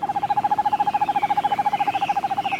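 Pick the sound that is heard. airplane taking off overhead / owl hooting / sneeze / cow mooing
owl hooting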